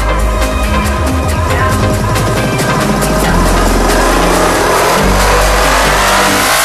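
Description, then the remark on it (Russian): A car's tires run over a roadside rumble strip of grooves cut into the asphalt on the shoulder beyond the side edge line, making a loud, continuous droning buzz with a rapid pulsing texture that shifts in pitch as the vehicle's speed changes, with the engine underneath. “За линией разметки боковой. Которая будет водителя, если он съезжает с дороги. Вот так выглядит.”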